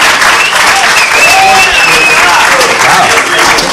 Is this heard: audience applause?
yes